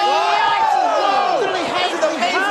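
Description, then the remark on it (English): A loud, dense wrestling crowd at Monday Night Raw roars and cheers continuously, many voices overlapping into a steady wall of shouting, with a noisy wash beneath that may be applause, after a call for a round of applause for Callisto. “That's Callisto. Round of applause.”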